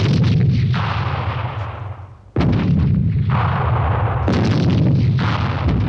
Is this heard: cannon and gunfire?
yes